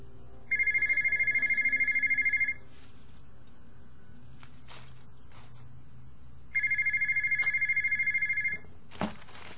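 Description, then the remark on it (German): A telephone rings twice in long electronic bursts, each lasting about two seconds with a pause between, clear against a quiet background, at a German freight forwarding company. “Guck mal am Telefon.”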